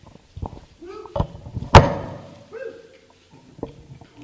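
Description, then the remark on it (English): A door is shut during a presentation with one sharp, loud thud, amid quiet shuffling and soft murmuring voices. “We shut that door.”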